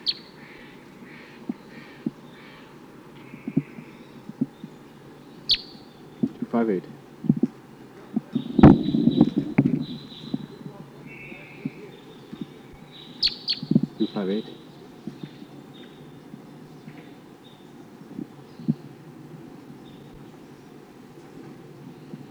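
Wild bird number 258, responding to calls from the wild, calls in scattered short, high chirps and whistles over a steady low background hum, with occasional sharp clicks and a louder burst of noise partway through.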